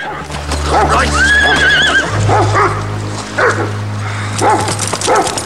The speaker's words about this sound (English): Then the jet black horse rears up, throwing its rider.